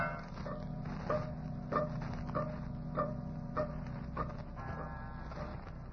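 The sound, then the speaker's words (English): A clock strikes nine o'clock with a steady series of evenly spaced chimes, each ringing tone lingering into the next over a low background hum, with no one speaking. “Holy crow, Moran, there's the clock hit 9 already.”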